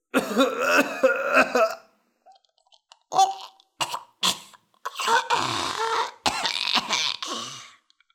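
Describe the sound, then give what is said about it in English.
A sputtering coughing fit after being forced to swallow a pear whole: a cluster of harsh hacks, a pause with small throat noises, then a run of longer, raspy, choking coughs and throat-clearing that trail off. “His eyes watered, his nose ran, and he coughed helplessly.”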